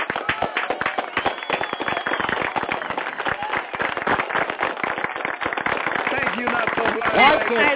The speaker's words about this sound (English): I'm of the glad state you guys are applauding that because people like this is who is representing you guys on the Hill.